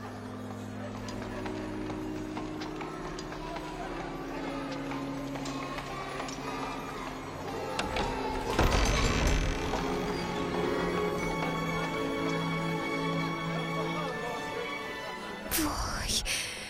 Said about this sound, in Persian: This is one of my favorite spots in all of Paris. Isn't it beautiful? But I can't see anything. چشمتو ببند. به صدای پاریس گوش کن.